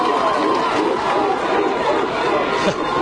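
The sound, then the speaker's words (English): A large crowd at an American football game roars a steady "Roof" chant for the player Roof, voices blending into a sustained chant-like drone with a faint tonal hum, loud and continuous for the whole moment without a pause. “You can hear the roof chants.”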